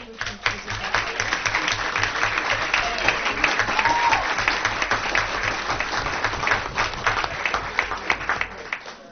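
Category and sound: crowd, crowd applauding and cheering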